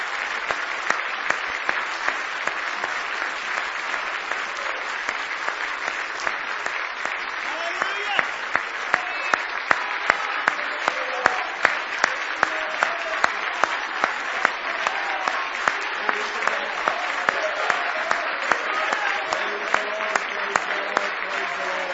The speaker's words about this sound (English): Glory to God. Let's give Jesus a hand clap tonight.